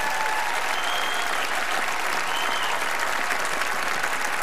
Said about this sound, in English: I know you're clapping, but you're the ones who didn't vote for her, by the way.